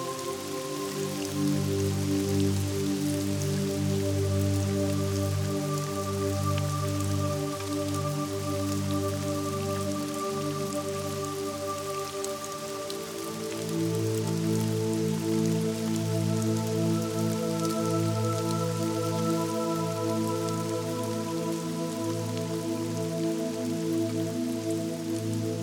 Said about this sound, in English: You are standing under the cascade of the cleansing water, feeling your joy.